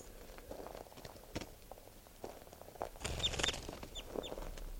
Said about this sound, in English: Bird's just sitting there. I'm gonna make it fly a little bit and see if I can get calls out of it.